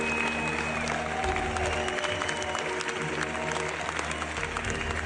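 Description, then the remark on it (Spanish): A large audience at the San Sebastián Film Festival gives a sustained ovation for the film La Virgen Roja, dense steady clapping filling the whole stretch at a constant loud level, with a faint crowd murmur underneath and no break in the applause. “Acaba de presentarse en Zaragoza, tierra natal de la directora de la misma, y también en el Festival de Cine de San Sebastián, donde, fíjate, recibieron esta ovación.”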